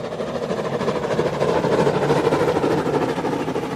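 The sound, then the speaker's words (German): A train rolls steadily along the rails, a continuous mechanical rumble with a fast rhythmic clatter that holds at an even loudness throughout, with no voices. “Die Eisenbahn breitet sich über das Land aus.”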